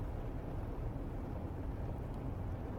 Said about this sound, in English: Ooh, what the hell is that? It's hailing like crazy now, really?